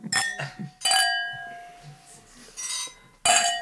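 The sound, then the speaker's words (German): Wine glasses clink together in a remote toast: several bright chimes with short ringing tails, two quick taps at the start, then more spaced out, with faint murmuring in between. “Das ist mal so ein Fernprost, ne? Teleprost.”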